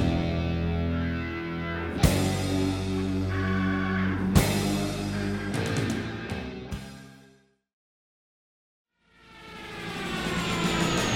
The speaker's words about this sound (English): What's the plane crash for?